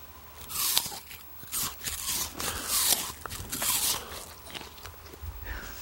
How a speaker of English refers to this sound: Do you want to have the listeners at home hear what a crunchy apple sounds like? Get really close to the microphone and chomp that apple.